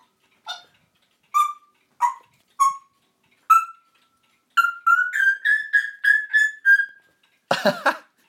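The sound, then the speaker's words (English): A pet whistles in the morning: four or five short, clear separate notes, then a quick run of bright chirpy whistles, ending in a brief harsh, noisy squawk. No one speaks. “I don't know what she's trying to emulate, but she's doing these lovely whistles this morning.”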